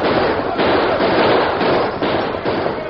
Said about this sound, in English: Scar Meekin's gang was caught off guard. The lawmen rode down hard and fast with their guns barking.